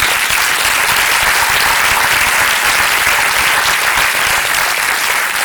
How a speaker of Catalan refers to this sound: Un aplaudiment, sisplau.